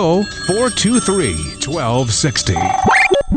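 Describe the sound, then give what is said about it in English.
A telephone rings briefly near the end, a bright electronic trill sounding over lively, sing-song voices that fill most of the moment. “Give us a call. Pick up the phone. Pick it up.”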